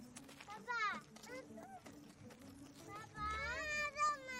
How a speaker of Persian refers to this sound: عزیز دلم توپ خورد توی صورتت. اشکالی نداره مامان. آخ. جان گریه نکن عزیزم.